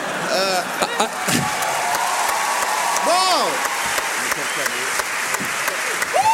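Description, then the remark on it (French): A crowd applauds steadily, a dense wash of clapping with sharp individual claps standing out, while voices call out and chatter over it. “Pendant les applaudissements, tu bois une petite gorgée.”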